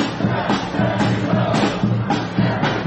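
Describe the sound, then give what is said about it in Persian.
A large crowd of Biden supporters chanting at a rally in New York, shouting that every vote matters and all must be counted, many voices together in a steady, repeating rhythm, loud and continuous throughout. “اینها طرفداران بایدن در نیویورکند. فریاد میزنند تک تک آرا مهمند و تمامشان باید شمرده شوند.”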